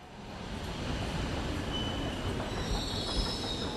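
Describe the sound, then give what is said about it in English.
A Brussels subway train, on the ride between downtown Brussels and Molenbeek, rumbles steadily along the rails, loud, with a dense low roar and high metallic wheel squeals streaking across the top. No voices. “Molenbeek is just a quick subway ride away from downtown Brussels”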